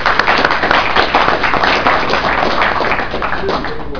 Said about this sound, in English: I'd just like to thank all the speakers for participating this year, and thank all of you for coming to this workshop. Let's give all our speakers another round of applause.